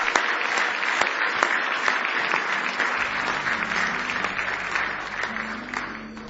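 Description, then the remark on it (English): A large church audience applauds steadily in a hand clap of praise to the Lord, dense overlapping hand claps at a strong, even level, with a low musical tone faintly underneath toward the end. “Give him one more big hand clap of praise if you love him.”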